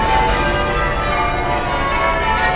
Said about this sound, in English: I think the peal of bells from one of the churches on the edge of Parliament Square is probably a coincidence,